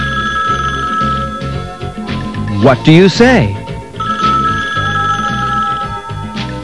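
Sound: telephone bell ringing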